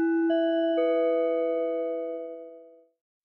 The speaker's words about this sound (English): So that's the spoiler-free portion. After the bell, that's when you have time to get out of here so that I can go into spoilers.